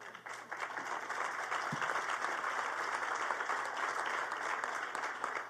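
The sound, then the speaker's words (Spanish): An audience claps steadily, a dense wash of applause that holds at an even level throughout, without any voices standing out. “Bueno, el aplauso quiere decir que coincidimos y gracias por el apunte.”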